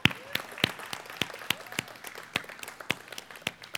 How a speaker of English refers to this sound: So I want to give a shout out to all those active military, those who are veterans. Thank you so much. Let's just give them a hand of applause.